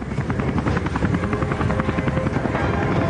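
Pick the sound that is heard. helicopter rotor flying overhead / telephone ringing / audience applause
helicopter rotor flying overhead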